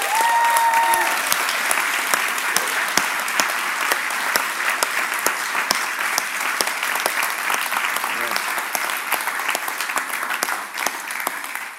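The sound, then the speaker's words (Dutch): Sustained applause from an audience, dense steady clapping filling the whole stretch, with a brief tone at the start and no talking over it. “Zullen we nou een geweldig applaus geven?”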